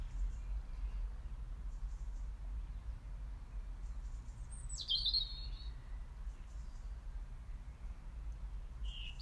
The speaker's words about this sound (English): I love it in the evening when there's just a few birds singing. It's really nice. I wish that blackbird had just come a little bit nearer though. It's a lovely time of year for the birds.